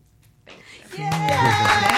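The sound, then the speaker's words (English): An applause sound effect swells in after a brief quiet moment, a dense wash of clapping joined by bright, sustained cheering voices that build to a loud, steady roar. “We got applause.”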